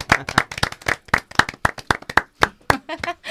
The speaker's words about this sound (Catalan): Molt bé, aplaudiment.